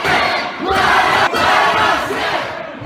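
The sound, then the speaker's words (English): A large crowd protesting coronavirus shutdowns shouts and chants together, a dense, loud roar of many voices with rising swells and brief dips, sustained without pause and no single speaker standing out. “There were protests like these in states across the country.”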